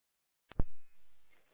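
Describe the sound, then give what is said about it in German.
A radio channel clicks open, then a steady electronic alert tone sounds for about a second with a slightly thin, band-limited quality, before fading out. No one speaks. “vielleicht verbreiten ja auch eine Alarmierung sogar drin.”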